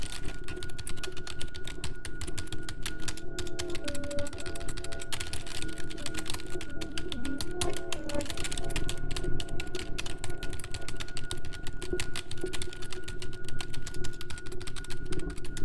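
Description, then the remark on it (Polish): Fast, steady typing on a laptop keyboard, dense clicking keystrokes continuing without pause for the whole stretch, with no voices. “Jej piszące po klawiaturze palce oraz patrzące w ekran oczy nie należały już do niej.”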